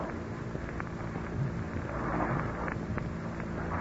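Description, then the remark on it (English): Slow, heavy dragging footsteps approaching a door thud at an uneven pace through a constant low rumbling noise, like a storm rolling underneath. No one speaks. “That dreadful sound. Strange, dragging footsteps. The footsteps are approaching this door.”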